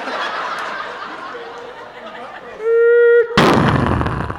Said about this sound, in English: Shit, we hit something. We got rear-ended by a Domino's truck.